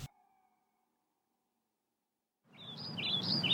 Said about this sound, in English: Birds are chirping as the sun shines.